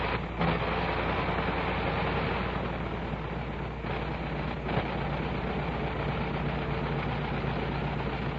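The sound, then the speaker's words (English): A big 425-horsepower Liberty V12 aero engine runs rough and continuously at a steady, loud level, with a heavy low rumble and a dense, gritty roar filling the whole clip. No one speaks. “I'm going to let you turn up your gain, turn up your receiver gain, and you can hear the sound of these 425 horses on this great Liberty engine.”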